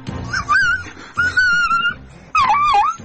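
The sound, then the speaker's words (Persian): A dog in Golestan province, Iran, wails and yelps in pain in a case of animal abuse: three loud, drawn-out cries with wavering, sliding pitch, separated by brief pauses, with no talking. “زجه‌های تلخ یک سگ در استان گلستان پیچید.”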